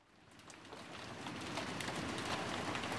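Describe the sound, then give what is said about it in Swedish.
Steady autumn rain falls in a dense, hissing patter that swells a little louder after the first second, with a faint wash of wind underneath and no voices. “Det är höst och det regnar.”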